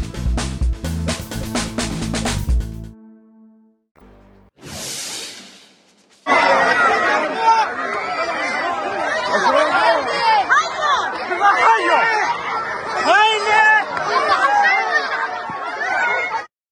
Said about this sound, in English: That panicked crowd was internally displaced Palestinians in Gaza's southernmost city of Rafah, reacting to a strike just feet from the tent city they now call home.